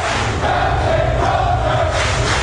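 A large crowd of sailors cheers and shouts to send off their captain, relieved of his command, in one continuous, loud roar that holds steady throughout, with overlapping yells and a faint sustained whistle-like tone running through the din.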